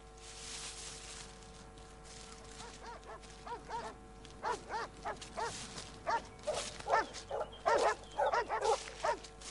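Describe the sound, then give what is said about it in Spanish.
Hungry wolves in the mountains snarl and bark in a rapid, overlapping series of sharp calls that grow denser and louder over the second half, above a steady low background hum. “Pero en esta época hay lobos. Sí, y bien hambrientos que deben estar.”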